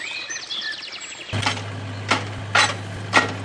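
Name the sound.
hammering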